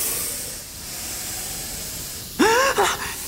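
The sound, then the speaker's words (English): Snakes in a tomb hiss in a steady, breathy wash for a couple of seconds, then a sudden loud, high, gliding tone cuts in over sharper bursts of hissing. “The tomb is full of snakes!”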